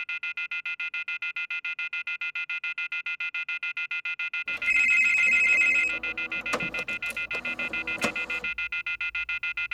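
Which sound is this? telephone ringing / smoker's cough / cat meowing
telephone ringing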